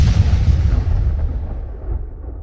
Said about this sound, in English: There's explosions that happen, and like the heat from the fire was so intense, like I thought my camera was gonna melt, and I thought my face was gonna melt.